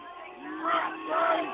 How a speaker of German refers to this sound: Oh, die schreien alle abschalten, ja?